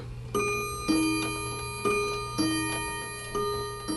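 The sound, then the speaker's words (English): Several old mechanical clocks, which a soldier repairs, tick steadily, their overlapping ticks forming an uneven rhythm with a faint metallic ring over a low, constant hum. “repairs old clocks while he waits for his body to repair itself.”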